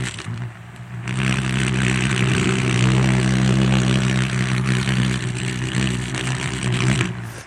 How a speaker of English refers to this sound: And as it hovers, it makes a noise, and I've managed to record it. This is a hummingbird hawk moth.